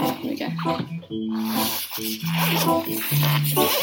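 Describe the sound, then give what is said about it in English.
A long, continuous coat zipper rasp runs for several seconds as a coat is unzipped and taken off, fairly loud, with steady tonal humming sounds layered over it. “Quite a long zip.”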